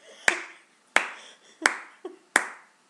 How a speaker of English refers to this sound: And also you just clapped, which will sound horribly jarring.